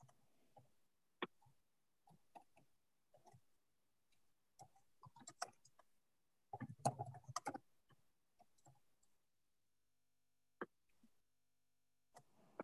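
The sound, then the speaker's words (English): Quiet, irregular keyboard typing with scattered key taps and short bursts of clatter, including a denser flurry midway, at low level with no voices. “Are you typing by chance?”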